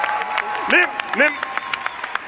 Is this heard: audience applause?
yes